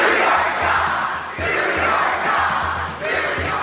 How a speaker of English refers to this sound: At a raucous town hall meeting in Utah, Congressman Jason Chaffetz, chairman of the House Oversight Committee, was shouted down for not investigating President Trump.